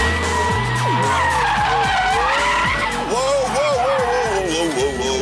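A car skids while spinning out, its tires squealing in long wavering high-pitched screeches over a loud, steady engine roar for several seconds.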